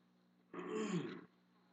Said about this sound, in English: if I get mild gesticulations, you have to turn my sound off while I clear my throat.